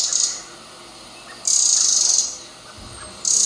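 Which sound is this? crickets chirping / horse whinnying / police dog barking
crickets chirping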